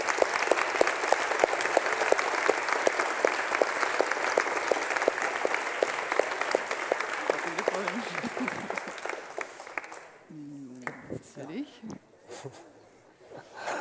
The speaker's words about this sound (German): Auch hier nochmal einen herzlichen Applaus.